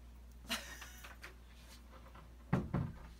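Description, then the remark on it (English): A door is shut: a light knock or click, then a couple of seconds later a solid double thud as it closes and latches, over a quiet room hum. “This door real quick so we can keep going.”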